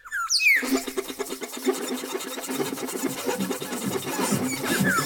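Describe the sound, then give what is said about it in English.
A wild bird named George taps vines together in perfect time, a rapid, steady rhythm like clicking rhythm sticks, making a dense clattering patter. Brief whistly bird calls sweep in at the start and near the end. “So, I argue that he's tapping vines together, he's virtually using rhythm sticks, a musical instrument, and very likely they're the only wild birds in the world that do this.”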